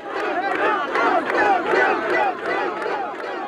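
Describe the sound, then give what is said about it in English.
A large crowd cheers and shouts together at David Duke's election night party, many voices whooping and yelling in a loud, continuous, energetic roar that swells in waves throughout. “That's the crowd at Duke's election night party,”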